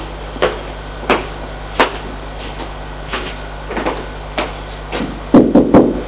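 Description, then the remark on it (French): Knocking on a wooden living room door, a series of separate sharp raps spaced irregularly, then a quicker burst of louder knocks at the end. Clear, with no voices. “À la porte du salon”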